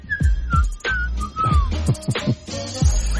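Someone whistles a clear, wavering melody of several sliding notes, steady, over a busy background of low thumping and rustling noise.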